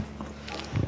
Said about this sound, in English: That was a cow bringing her cud back into her mouth and chewing it up again. That's what they do.